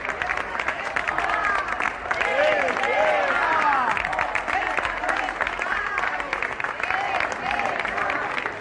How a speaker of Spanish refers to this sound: Bueno, les hicieron un pasillo de icurriñas, con ramos de flores, aurrescus, aplausos, gritos pidiendo la vuelta a casa de los presos vascos.